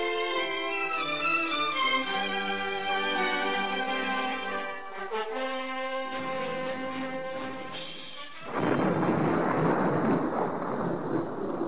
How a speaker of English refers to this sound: Looks like we're in for a bad storm. You can say that again. Just look at the sky out there.